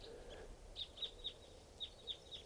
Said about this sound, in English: Flock of big flock of crossbills just flew in here. Sound like type twos, must be about 10 or 12 birds.